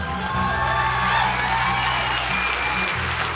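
An audience claps and cheers together, celebrating people who have walked forward, in a steady, dense wash of applause, with scattered whoops and shouts rising over the loud, continuous crowd noise throughout.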